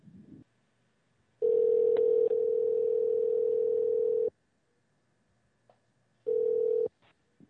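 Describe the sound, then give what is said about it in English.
A loud, steady telephone dial tone drones for about three seconds, then cuts off; after a pause, a shorter burst of tone sounds with faint clicks of dialing around it, as a radio show host places a call to a guest. No voices. “So Chuck will get Richard on the phone right about now.”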